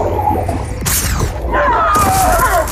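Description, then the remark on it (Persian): A sharp, loud gunshot cracks out amid a busy, rumbling scene, followed a second later by a burst of harsh noise and whining tones. “شلیک خوبی بود.”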